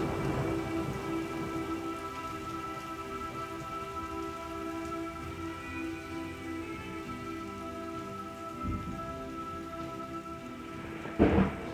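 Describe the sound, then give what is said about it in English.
Steady rain patters and hisses on a surface during a thunderstorm while low thunder rumbles underneath, ending with a sharper, louder crack as lightning strikes near the close. No voices are heard. “what the heck am I doing up here in a thunderstorm?”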